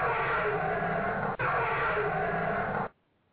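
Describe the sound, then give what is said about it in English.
A loud, harsh dragon roar sound effect from a popular 1980s game show rumbles for about three seconds, broken by a momentary gap partway through, then cuts off abruptly. “My dragon.”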